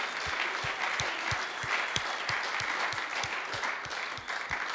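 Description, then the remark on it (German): A crowd applauds the mothers in the audience on Mother's Day, continuously in a dense, steady wash of clapping, with a regular low thumping pulse running through it about three times a second. No one speaks. “Das war euer Applaus, liebe Mamis.”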